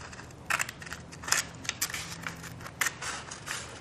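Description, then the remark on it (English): Scissors snip lengthwise down the middle of a length of paper in a series of short, crisp cuts at an uneven rhythm, fairly quiet, with faint rustling between snips and no voices. “If you took a simple length of paper and cut it lengthwise with a pair of scissors down the middle, a simple ring, right?”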